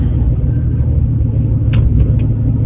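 Steady low road rumble fills the inside of a 1994 GMC Jimmy SUV driving into a strong wind, with a broad hiss of wind layered over it and a few faint brief squeaks or rattles near the end.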